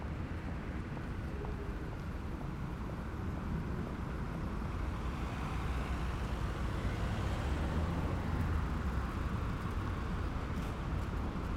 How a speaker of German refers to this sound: Wenn ich angekommen bin, beim Zebrastreifen rechts von mir, warte ich, bis die Autos stehen bleiben und gehe hinüber auf die andere Straßenseite.